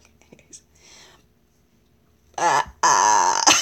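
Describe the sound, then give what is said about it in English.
After a few quiet breathy murmurs, a person lets out two loud, quavering imitations of a sheep's bleat, the second longer and wobbling in pitch. “Or I guess you could call it a bleat.”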